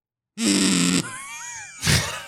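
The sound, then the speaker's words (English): A kazoo blown without humming gives a harsh, flat, buzzy blast, then a softer wavering whine, then a second raspy buzz. No one speaks. “This is a kazoo when you blow.”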